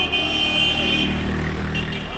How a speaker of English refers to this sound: They were honking their horns, shooting guns in the air in celebration, right?